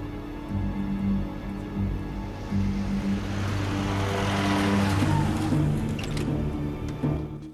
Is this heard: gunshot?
no